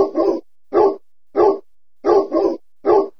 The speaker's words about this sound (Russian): Маркиз не успел ответить Зосе, потому что как раз в этот момент на огород с оглушительным лаем ворвался пират.